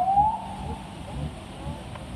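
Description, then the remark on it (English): A police siren wails from an unmarked police car leading the first COVID-19 vaccine shipment out of the Pfizer plant in Kalamazoo, a single drawn-out tone drifting slightly in pitch over a steady bed of outdoor rumble and a clapping, cheering crowd. “The unmarked police car is leading the way.”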